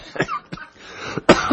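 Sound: cough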